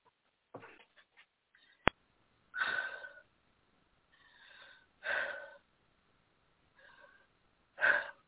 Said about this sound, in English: So you got to hear me breathing. That's how it starts. I'm not just losing my breath.